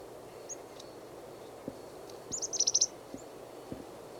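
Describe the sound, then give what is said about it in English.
Chickadee calls from a small flock of chickadees foraging in pine branches about 2 meters up: a quick run of high, thin chirps in a rapid burst of five or six notes, with a few scattered single peeps before and after over a soft outdoor hiss. “There's a third chickadee just beyond it, 3 meters.”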